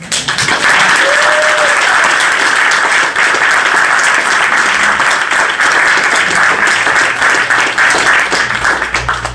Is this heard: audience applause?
yes